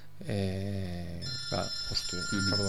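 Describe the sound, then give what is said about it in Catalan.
A mobile phone rings with a bright, electronic melodic tone, steady, sounding for a few seconds in the middle of a conversation. “Cap problema. Això dels mòbils, doncs, acostuma a passar.”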